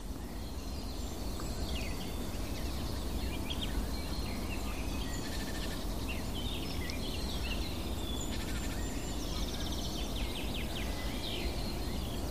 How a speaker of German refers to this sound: Hell und klar die Grasmücke wieder.